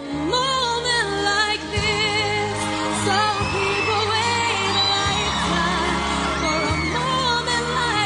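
A crowd screams and cheers continuously throughout a loud live singing performance, the shrill fan noise blending with a soaring solo voice and sustained band accompaniment. It is the televised 2002 first-season finale of American Idol, sung after the winner was announced.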